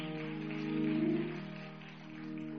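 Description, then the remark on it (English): An audience claps in praise, a steady dense patter of many hands that swells slightly in the middle, with a low sustained hum or organ tone underneath and no one speaking. “Let's give God a hand clap of praise for her.”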